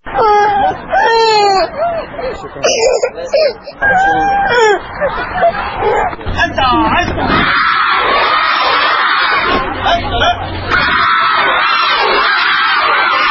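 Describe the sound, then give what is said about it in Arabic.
A crowd of young pupils lines up in the schoolyard of Al-Adnaniya primary school in Hilla, Iraq, on the first school day, away from their parents. Loud, overlapping chatter and shouts; high-pitched crying and wailing voices stand out at the start before blending into a steady, busy hubbub. “إذاعة العراق الحر دخلت مدرسة العدنانية الابتدائية في مدينة الحلة وواكبت ساعات الدوام الأولى، والتي بدأت بالبكاء عندما اصطف الطلبة في ساحة المدرسة بعيدا عن أهليهم.”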